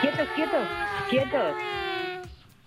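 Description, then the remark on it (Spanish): A person imitates a newborn baby's cry, a series of wavering, high-pitched wails rising and falling in quick bursts, fairly loud, trailing off at the end. “El bajido es el llanto del recién nacido.”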